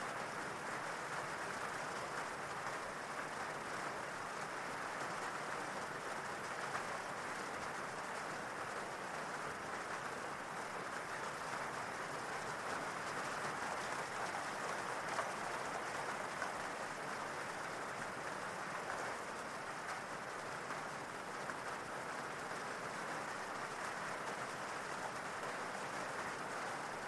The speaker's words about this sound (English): And the more you listen to the rain, the deeper relaxed you go.